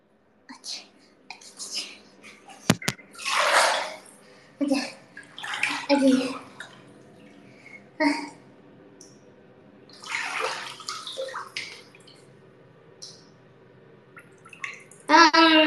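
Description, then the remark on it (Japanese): Water sloshes and splashes in a bathtub in irregular bursts as someone soaks in hot bath water, with soft drips between movements and quiet voices murmuring faintly in the background. “お湯に浸かるのはね、10分ぐらい。”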